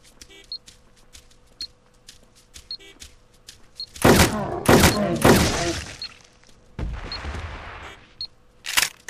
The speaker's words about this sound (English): And then beep beep beep noise is obviously the tracking thing.